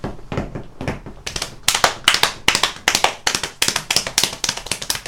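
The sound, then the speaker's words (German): Rapid tapping mimics a galloping horse, quick sharp taps falling in uneven groups of three that build from softer to louder and stay steady, with no voices. “Dann mach ich mal ein bisschen Galopp.”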